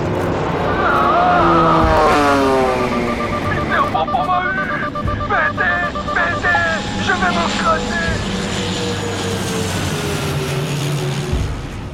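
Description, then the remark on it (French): A combat drone roars overhead, its loud engine whine sweeping down in pitch as it passes by, then fading into a steady rumble. “Pour l'instant, Peter Pampan, devenu Godzilla-pain, va écraser Bad Bruce, Bad Bill, après avoir abattu Julius, venu en renfort sur un drone de combat.”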